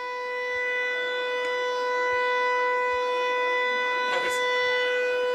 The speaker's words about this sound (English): Two down, and a persistent siren that has not gone away here.